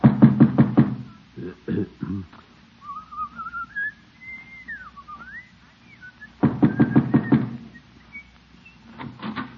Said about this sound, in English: Just knock on her door and get it over with.